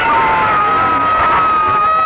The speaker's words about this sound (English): Let's have a yell. One, two, three.